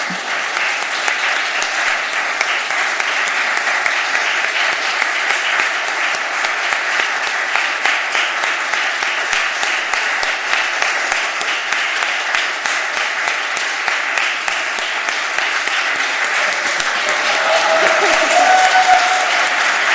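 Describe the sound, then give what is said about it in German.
Sustained audience applause, a dense steady clatter of many hands clapping for the full stretch, swelling slightly louder near the end, with a faint cheer or whistle rising above it. “Ich finde, jetzt könnten Sie mal einen Applaus geben.”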